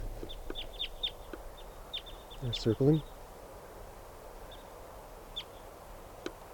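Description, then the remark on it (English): Red crossbill type 2 flight calls: short, sharp chip notes repeated in loose clusters from a flock of about 20 crossbills in the trees, all sounding like type 2s, with a man speaking briefly partway through. “The trees are full of crossbills now. There's about 20 birds around here all together. And they all sound like type 2s.”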